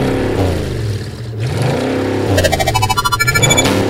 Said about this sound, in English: Cheeky motor, motor, cheeky motor, motor, cheeky, cheeky motor car. Motor, motor, vroom.